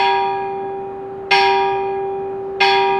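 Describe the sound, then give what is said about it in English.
A large metal bell made for Alabama's bicentennial, at a historic iron furnace site in Birmingham, Alabama, rings out in slow, steady strokes, each strike bright and loud, then fading into a long, humming resonance that lingers until the next toll. No voices are present. “That's the Alabama Bicentennial Children's Bell.”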